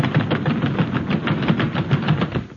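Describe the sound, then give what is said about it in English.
A loud, continuous rumble of the many feet of an audience rushing out of an NBC studio, thundering past with a steady pounding rhythm that holds for a few seconds and then starts to fade. “Costello, what was that? What do you think it was? The audience!”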